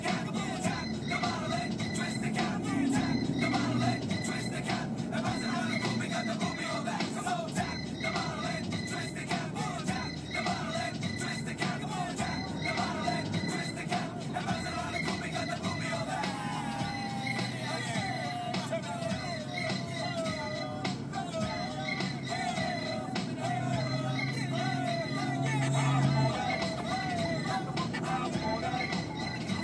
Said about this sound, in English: Cars.